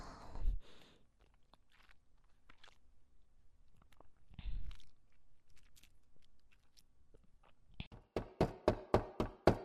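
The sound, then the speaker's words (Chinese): A rapid run of about seven firm, evenly spaced, loud knocks on a door comes near the end, from someone returning home and asking her younger sister to open up, after a quieter stretch broken by a couple of dull, muffled thumps. “妹妹，我回来了，快来开门。”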